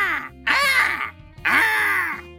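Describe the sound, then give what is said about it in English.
Two loud, harsh crow-like caws from a jet black bird standing on a cash register, each a raspy, drawn-out squawk about half a second long, separated by a brief pause, filling the room. “I yelled, but the bird just kept screaming, even louder, drowning me out and filling the room with its multi-level marketing bullshit pitch”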